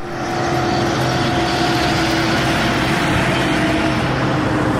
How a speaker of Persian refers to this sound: کامیون‌های مهاجران افغان فوج فوج به مراکز نگهداری دایر شده توسط دولت پاکستان می رسند.